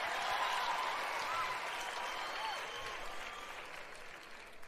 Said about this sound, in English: Members of the audience are howling with laughter and clapping.